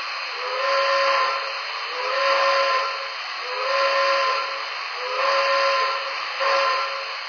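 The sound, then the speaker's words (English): A steam train whistle sounds loud, signalling that the train is about to get underway: a hissing, breathy tone that swells and fades in five repeated blasts over a steady rush of steam, with no voices. “Well, there's my signal. We should be getting underway soon.”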